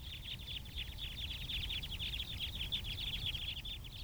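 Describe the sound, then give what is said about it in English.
A flock of crossbills flying overhead at Fayetteville Country Club, Arkansas, recorded on a windy day in December 2012, gives flight calls: a steady stream of short, high 'chip' notes, many overlapping, over a constant low rumble of wind. “Can you hear the flip flip or chip chip calls?”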